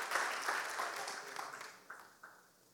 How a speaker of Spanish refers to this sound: Amén, dele un fuerte aplauso. Nosotros fuertes y ese aplauso para nuestro Dios.